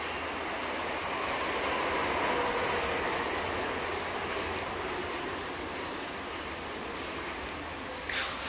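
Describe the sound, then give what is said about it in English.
A subway train rumbles past underneath, a steady, broad roar that holds at an even loudness throughout, muffled and continuous, with no voices. “Here comes a subway train below me.”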